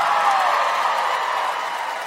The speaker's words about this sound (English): Oh, you're applauding that.